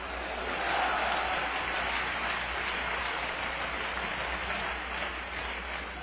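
A large audience claps and cheers in response to a preacher's call to clap their hands and holler hallelujah, a dense, steady roar that fills the whole stretch without letting up, swelling slightly near the start and staying loud throughout.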